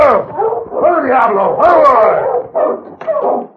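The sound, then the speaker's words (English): Several dogs bark and yelp excitedly, their overlapping, rising-and-falling cries forming a loud, nearly continuous chorus with a couple of sharper yips near the end. “He heard the dogs, I guess.”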